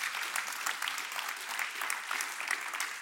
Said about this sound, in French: C'est que nous allons être avec lui pour l'éternité, pour toujours. Et ça, on peut applaudir ça, oui.